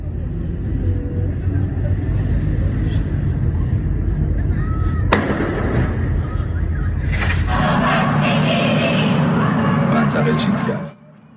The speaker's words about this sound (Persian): در طول روز هم نیروهای حکومتی برای مقابله با اعتراضهای مصادف با روز دانشجو در خیابانها حضور داشتند و به سمت پنجره‌ها و شهروندانی که در حال فیلم برداری بودند شلیک کردند.